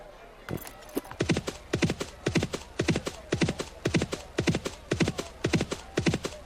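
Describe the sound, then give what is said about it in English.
Rapid, rhythmic horse hooves gallop in steady clusters of beats, loud, continuing without pause for several seconds with no voices, in a horse racing game. “The sounds pan, I think, the closer you get to the finish line.”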